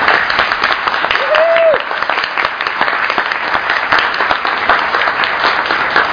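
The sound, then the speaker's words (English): Steady audience applause fills the whole stretch, a dense, even patter of many hands clapping at a loud, constant level, with a brief rising-and-falling whistle-like tone early on. “I do want to applaud all of you just for this hard, hard work.”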